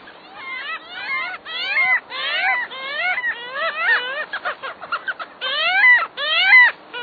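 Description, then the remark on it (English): Parasitic jaeger calls ring out in rapid, repeated nasal wails and yelps, rising and falling in quick overlapping bursts, loud with no pauses for long. “This elegant buccaneer is a parasitic Jaeger, a relative of gulls that is built for sprinting speed and predatory feats.”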